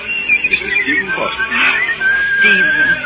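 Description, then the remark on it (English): A person whistles a fast, warbling run of shifting high notes, imitating a mockingbird's varied song, steady throughout with a low murmur beneath. “Y'all means that whistling, Miss Jane. Ain't nobody can out-whistle a mockingbird except one person.”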